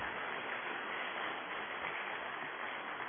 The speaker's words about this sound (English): Give her a big hand of applause again, please.